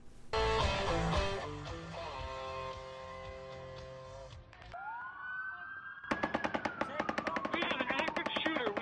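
impact, rapid gunfire

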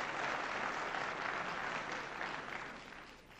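crowd, audience applause

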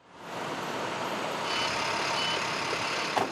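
vehicle, large truck

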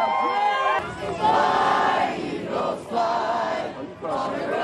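crowd, crowd celebrating

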